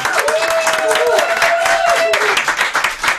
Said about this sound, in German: aber erstmal einen herzlichen Applaus an unseren Gast